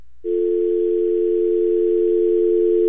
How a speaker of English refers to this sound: there's a we have to take down that dial tone. We run into some technical difficulties, and we'll be right back.